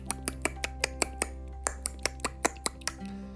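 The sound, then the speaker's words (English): Someone makes dolphin-like clicks with their mouth: about sixteen sharp, crisp clicks in a quick, fairly steady series, with no talking over them. “And so she ran over to the edge of the boat and started to click, that's how dolphins talk, like this.”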